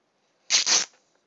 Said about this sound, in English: And I'm actually going to do one more cloth rip just so I have a little bit better of a length. None of them were suitable length for what I think I wanted.